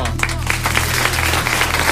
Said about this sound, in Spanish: Más aplauso.